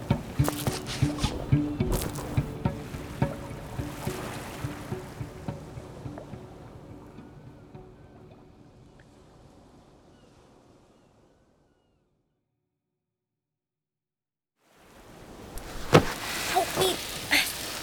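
A motorboat churns across choppy water, engine drone and splashing waves steady, gradually fading away to silence before rushing, wave-like water noise surges back near the end.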